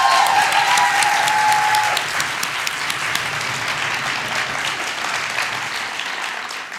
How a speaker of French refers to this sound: Et pour cela, quoi de mieux que d'accueillir le président du Paris Podcast Festival. Est-ce qu'on peut faire un tonnerre d'applaudissements pour Thibaut de Saint-Maurice, s'il vous plaît ?